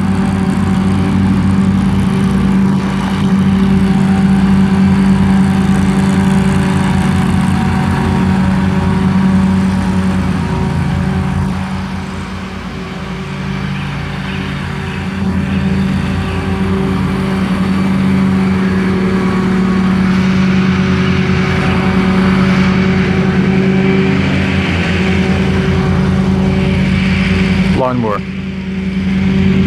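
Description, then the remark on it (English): A lawn mower engine drones steadily and loudly for the whole stretch while mowing a lawn, its low buzzing hum holding an even pitch with slight wavering, then dropping off abruptly at the very end. “Mowing lawn.”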